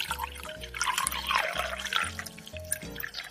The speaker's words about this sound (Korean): 커피머신으로 따뜻한 커피 한 잔을 내려서 마십니다.